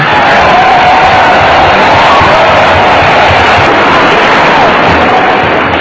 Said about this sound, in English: Not too much applause. I've only got an hour.